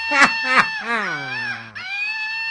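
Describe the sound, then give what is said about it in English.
A stuffed superhero toy monkey's sound effect, made when it belly-flops hard onto its belly: two quick harsh squawks followed by a long, wavering, rooster-like crowing cry that jumps to a higher pitch at the end, fairly loud with no talking over it. “Otherwise, where else would you sell or give away a stuffed superhero monkey who sounds like...”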